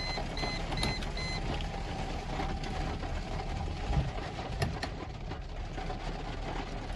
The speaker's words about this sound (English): I'm gonna turn on the car, guys, because there we go. Let me turn on the car, get the windows up.